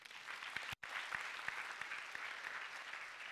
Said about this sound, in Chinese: 我哋俾掌声我哋嘅父亲先。